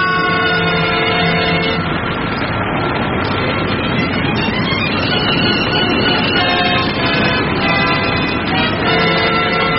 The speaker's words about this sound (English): Any loud noise could put us in mortal danger! Danger of what? Avalanche!